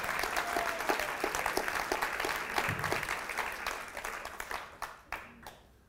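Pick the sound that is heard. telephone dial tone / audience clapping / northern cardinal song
audience clapping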